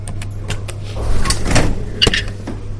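A secured laboratory door opens with a mechanical sliding whoosh and a few sharp clicks and clunks, while a steady low electrical hum runs beneath the whole sound.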